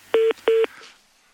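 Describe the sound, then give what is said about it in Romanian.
Two short, loud telephone line beeps, evenly spaced and steady in pitch, like the busy tone after a caller hangs up, followed by faint line noise fading out. “Știți că nu e frumos să închideți telefonul înainte să terminăm convorbirea.”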